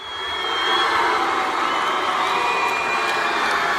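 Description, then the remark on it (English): A large crowd at a Texas high school state wrestling championship roars with a mix of cheers and boos after Mac Beggs's winning match, a dense, loud wall of voices and shouts that swells early and holds steady for several seconds. “Here's the crowd cheering and booing after the match.”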